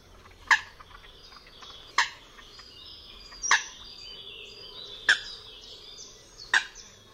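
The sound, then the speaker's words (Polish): Five short, abrupt, slightly clucking contact calls of a Eurasian coot, evenly spaced about one and a half seconds apart, clear over a quiet, faintly hissing background. “Głos kontaktowy łyski składa się z krótkich, gwałtownych, lekko gdaczących sylab.”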